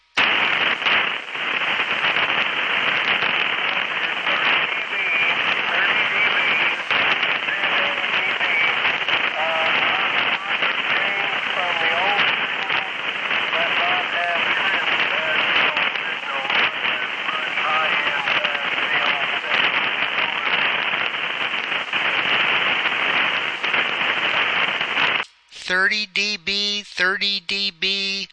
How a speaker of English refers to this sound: I'm only able to hear little snippets because of the bad static. Over.